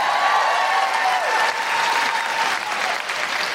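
Audience applause, a dense, steady wash of many hands clapping at a fairly constant loud level for several seconds, with a few faint tonal whistles or cheers threaded through.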